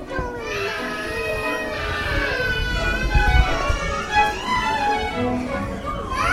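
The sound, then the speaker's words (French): Several babies in the audience of a performance for babies babble, coo and cry at once, their high wavering voices overlapping into a steady, lively chorus that rises and falls without pause. “La foule est en délire, là.”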